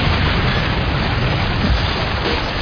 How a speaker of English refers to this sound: Desmond blows up the White House of the Future